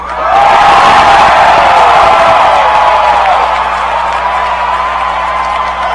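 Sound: audience screaming and cheering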